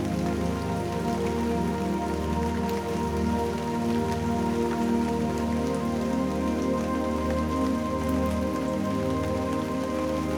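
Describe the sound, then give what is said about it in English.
Steady rain falls continuously for the whole stretch, a dense, even patter of drops at constant moderate loudness, with a soft sustained tonal drone humming beneath it and no voices. “Visualize the rain falling.”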